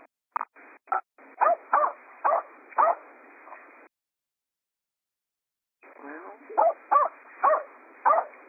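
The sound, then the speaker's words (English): A dog barks repeatedly in short bursts on a caller's unmuted phone line during a call-in, heard through a narrow, phone-like line, with a pause of silence before several more barks and yips resume. “So you're going to have to hit star 6, guys, to mute yourself, especially if you're out with your dog.”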